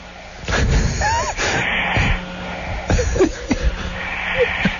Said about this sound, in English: And listen to his snoring. Didn't I say it sounded like a little kid, like a child? Yeah. It doesn't have that coarse. No, it does not have that manly snore. It sounds like my kid's snoring, sleeping.